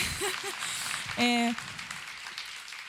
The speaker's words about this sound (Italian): Un applauso. Un applauso.